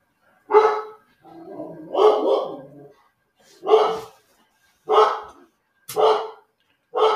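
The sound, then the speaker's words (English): A dog barks repeatedly, about six loud, sharp barks spaced roughly a second apart, with one longer, rougher growling bark among them and no talking. “Let's wait for the dog to shut up.”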